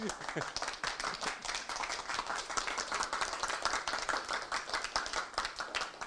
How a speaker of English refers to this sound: That was absolutely beautiful, wasn't it? There's enough people to applaud here.